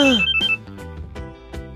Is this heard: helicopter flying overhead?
no